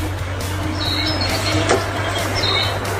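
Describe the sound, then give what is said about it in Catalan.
A few short, thin bird chirps come and go over a steady outdoor hiss and low hum during falling snow in la Bisbal or Sant Antoni de Calonge, with no one talking. “És això, ocells que conviuen amb la neu.”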